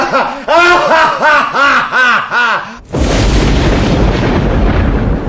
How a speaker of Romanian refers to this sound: Tună și fulgeră pe un cer fără nori și cu soare orbitor?